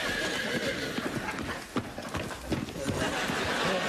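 A horse gallops with a dense, rhythmic drumming of hooves as it approaches. Sharper thuds stand out above a noisy, busy background, and the sound stays loud throughout.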